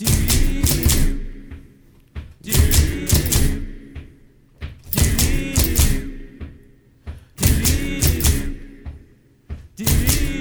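Typewriters played as percussion music: loud, rhythmic bursts of clacking keys, thuds and dings repeating in a steady pattern of about four phrases, with no voices.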